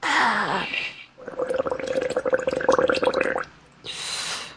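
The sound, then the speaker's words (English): Rapid liquid bubbling as someone takes a hit, a steady gurgling burble lasting a couple of seconds, framed by breathy whooshing air just before and after it. “What are you pouring a drink? Yeah, you could say that.”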